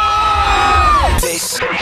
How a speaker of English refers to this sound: Can we have a cheer for Westwood? Oh! I'm sorry, a holler.